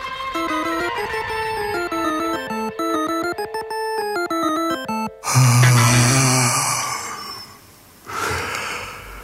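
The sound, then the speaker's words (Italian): A short melodic musical phrase gives way to a loud, drawn-out yawn with a groaning voiced quality, fading off before a brief breathy exhale at the end. “Sbadiglio che però spero non vi abbia così fiaccato”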